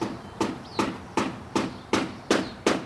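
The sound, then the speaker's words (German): Steady hammering by craftsmen renovating old houses in the streets, seven sharp blows at an even pace of roughly two per second, ringing out clearly against a quiet outdoor background with no voices. “Das Bohren und Hämmern der Handwerker ist in den Straßen zu hören.”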